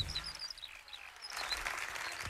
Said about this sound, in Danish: En syg fugl, det der. Nej, den er bare langt væk. Men er det en lærke? Er du sikker på det? Det er en sanglærke.